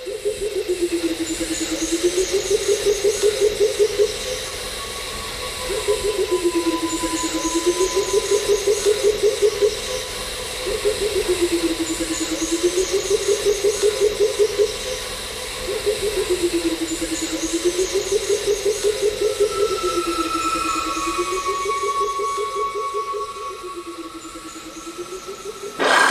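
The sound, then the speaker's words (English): A recording from the ABC Sound Library of a pheasant cuckoo's full call: low, hollow, wavering phrases repeated about every five seconds, five times in a steady rhythm, with faint higher insect-like buzzing in the background. “And this is a recording of the whole call of the pheasant cuckoo from the ABC Sound Library.”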